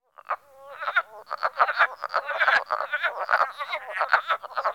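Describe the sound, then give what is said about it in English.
A dense chorus of wood frogs calling together from a vernal pool in spring, between late March and early April, a continuous overlapping clucking and quacking chatter with many voices, steady and moderately loud, with no talking. “No, they are not ducks, but wood frogs calling from one of Broadmoor's vernal pools.”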